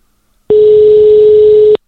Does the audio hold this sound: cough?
no